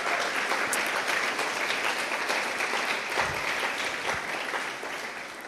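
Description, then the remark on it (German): Sustained audience applause at a church service, given for the volunteers who translate the service, a dense steady roar of many hands clapping that holds at a fairly loud level for several seconds before starting to fade at the end. “Gebt es auch mal einen herzlichen Applaus.”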